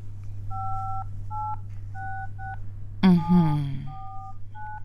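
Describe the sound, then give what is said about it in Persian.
A quick run of telephone keypad dialing tones, short electronic beeps pressed in uneven succession over a steady low hum, with a brief voiced sound breaking in partway through, as a mother dials to phone the children's father. “باشه، من تلفن میکنم. باید ببینم که پدر جانتان وقت داره یا نه. باش که من انبرش رو بگیرم.”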